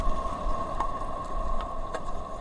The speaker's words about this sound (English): But we could hear the wind whistling over the top of the crab flute, this wind instrument that the crab has made.